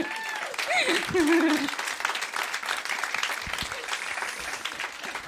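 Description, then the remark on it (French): Dense, steady crowd applause fills about five seconds, with a single voice letting out a gliding, sing-song cheer over the clapping near the start. “on peut l'applaudir.”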